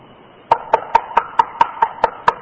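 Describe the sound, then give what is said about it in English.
A quick, steady run of about nine sharp knocks on the door of a rear upstairs apartment, evenly spaced and fairly loud, with a faint hiss underneath and no voices. “And the rear apartment upstairs, we knock on the door.”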